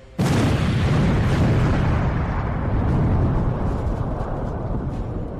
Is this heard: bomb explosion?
yes